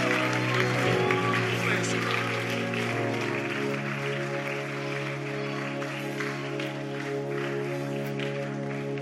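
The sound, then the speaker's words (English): A church crowd claps steadily and continuously to welcome Reverend Williams Agbo from Kumasi, a dense crackling patter running under a loud, sustained tonal backdrop of held notes and voices, with no breaks across the whole stretch. “Oh, keep clapping, keep clapping, keep clapping.”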